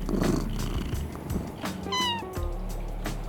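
A cat named Croak in Treehouse's Cat Cafe purrs with a low, steady rumble, then lets out a short, rising meow near the middle before settling back into purring. No one speaks.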